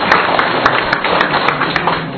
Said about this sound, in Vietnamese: Rồi, chúng ta cho một tràng pháo tay to nữa thưa anh chị em.